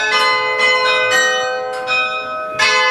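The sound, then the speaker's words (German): Church bells of the Johannisturm tower in Hattingen ring continuously, overlapping strikes every half second or so keeping a dense, sustained metallic hum with long ringing overtones, loud, no voices. “Jetzt stellt euch aber mal vor, die Dinger würden so locker eine halbe Stunde lang durchgehend läuten. So zum Beispiel.”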